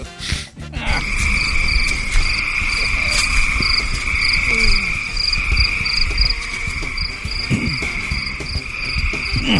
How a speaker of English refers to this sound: Where are the crickets? Do I have the crickets?